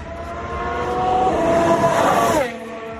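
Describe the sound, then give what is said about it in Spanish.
A high-revving two-year-old Ferrari Formula 1 car screams past on the track at Fiorano, its pitch climbing as it nears and then dropping sharply as it passes, a loud Doppler sweep over a steady roar. “te voy a poner el sonido de hoy del coche de la vuelta de Carlos Sainz a la pista”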